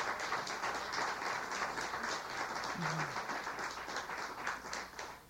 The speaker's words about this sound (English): You know, I really appreciate your applause, and out of courtesy or out of hurry up and get through, but I'll ask you, don't applaud.